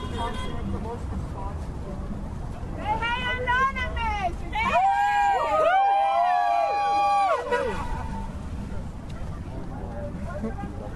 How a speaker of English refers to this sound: Got bypassers honking their horns.